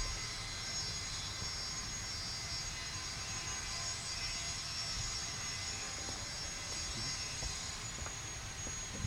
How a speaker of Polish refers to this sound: To nie zakład dentystyczny, tylko ktoś z wiertarką próbuje jakoś wciąć się w historię Salomei. I co, słychać?